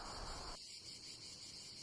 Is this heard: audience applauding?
no